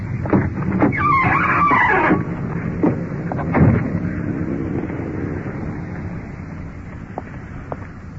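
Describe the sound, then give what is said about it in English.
A uniformed police car carrying a suspect rolls up in front of a trailer court with a rumbling engine and a brief squeal of brakes as it stops, then idles quietly amid steady outdoor noise. “The uniformed car is pulling up in front with the suspect.”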